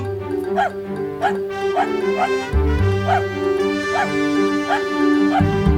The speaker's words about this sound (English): Oh, there it is. I guess cue dog news music now.